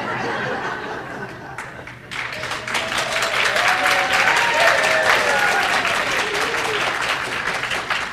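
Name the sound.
audience applause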